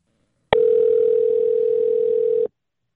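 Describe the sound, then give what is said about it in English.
A single steady electronic ringback tone from an outgoing phone call to the speaker's father, one clear two-second ring that starts and stops abruptly, fairly loud and heard alone with no talking. “Okay, here we go. It's ringing.”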